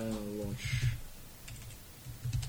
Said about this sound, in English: It's because you're typing under pressure.